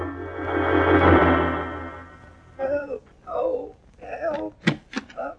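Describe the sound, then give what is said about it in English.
A long, rumbling creak as the door of a carriage standing in front of a museum swings open, followed by a man's low, wavering moans and groans in several drawn-out bursts. “Well, I found the carriage in front of the museum, right enough, and when I opened the door to look inside, I heard a moaning and groaning.”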